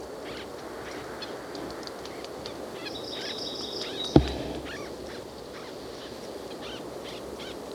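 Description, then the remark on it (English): Soft, low squeaky calls from two white-breasted birds in the same oak tree repeat throughout over a steady wind-like hiss as the wind blows, with a thin, higher series of notes midway and a single sharp click. “They're both making low squeaky noises.”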